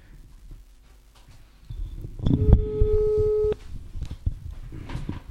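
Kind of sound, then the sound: signal or alarm, telephone call tone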